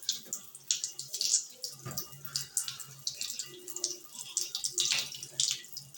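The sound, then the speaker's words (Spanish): Water runs steadily from a tap, wasting a lot of water, a continuous splashing hiss with small irregular spatters, fairly clear with no talking over it. “Así está mal, porque estamos desperdiciando mucha agua.”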